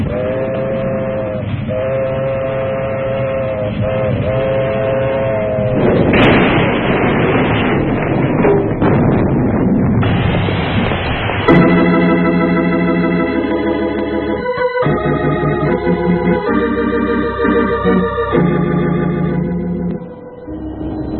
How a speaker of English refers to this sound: Extra, extra! Read all about the big train disaster! Extra, extra! Read all about the big train disaster! No survivors!